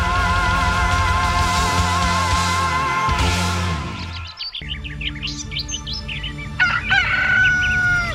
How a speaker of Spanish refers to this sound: Canta el gallo, pero no, no. Son ahora mismo las 11 y 6 minutos de la noche.